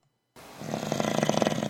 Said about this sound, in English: Gross. That's just sick. At least my snore was kind of like constant.